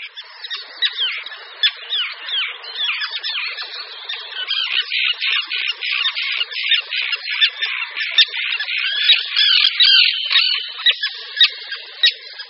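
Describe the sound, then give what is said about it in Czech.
Common terns calling harshly and continuously, a dense overlapping chorus of raspy, grating cries from several birds, loud throughout, with no one speaking. “Slyšeli jsme totiž hlas rybáka obecného.”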